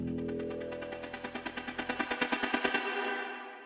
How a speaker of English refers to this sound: but the world record for the most fireworks launched within 30 seconds might take some beating. In 2010 in the Philippines, it took just 17 seconds to launch nearly 126,000 rockets.